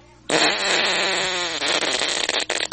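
A loud, drawn-out fart, rasping steadily for over a second before breaking into wet, sputtering bursts near the end, with no one talking.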